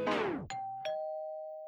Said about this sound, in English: At the very end, it cuts off with this doorbell.